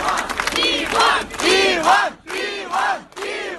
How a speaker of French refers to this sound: Voilà, ça c'est une vidéo postée aussi par Medusa où l'on entend les cris donc de centaines de personnes qui manifestaient et qui ont manifesté pendant 8 heures toute la journée de samedi devant le tribunal moscovite où Ivan Golunov comparaissait